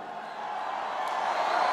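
crowd, rally crowd cheering

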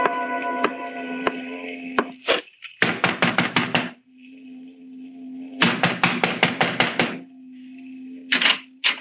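impact, knocking on a door

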